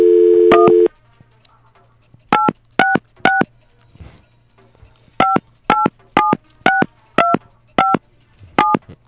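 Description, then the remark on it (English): A brief steady dial tone, then a phone number punched in as touch tones: three quick beeps, a pause, then about seven more evenly spaced beeps over a faint low hum. “Deciphered there for you in clicks and whistles.”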